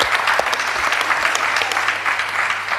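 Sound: audience applause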